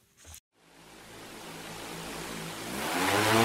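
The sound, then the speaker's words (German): After a brief thump and a moment of silence, a 12-kilogram camera drone packed with high-tech sensors and cameras, used by researchers to identify beetle-infested trees, lifts off from a forest path, its motors spinning up into a loud, steady buzz that grows louder and rises slightly in pitch. “Mit lautem Brummen erhebt sich die Drohne von dem Waldweg.”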